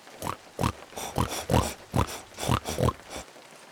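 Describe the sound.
A person imitates baby pigs with a quick series of about eight short oinks and squeals in an uneven, bouncy rhythm, each grunt rising into a nasal squeak.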